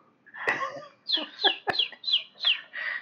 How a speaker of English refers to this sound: I will never find out why these birds are so angry.